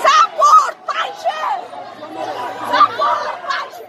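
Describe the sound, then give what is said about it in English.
Hundreds of Afghan women protesting against the Taliban in Kabul, Afghanistan, shout and chant together in loud, overlapping bursts, with a dense babble of other voices filling the gaps between phrases. “Just this past Tuesday in Kabul, hundreds of Afghan women led one of the largest protests against the Taliban, and Tolo was there to cover it.”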